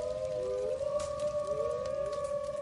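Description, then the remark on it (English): Several wolves howl together in long, overlapping, wavering tones that slowly rise and fall in pitch, sounding somewhat distant and sustained throughout, with no talking. “talking about commerce as the wolves howl in the distance.”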